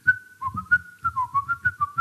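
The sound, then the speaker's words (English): Someone whistles a bouncy, cheerful melody, the notes short and rhythmic with quick pitch hops, accompanied by soft low thumps in a steady beat. “Whistling a jaunty tune.”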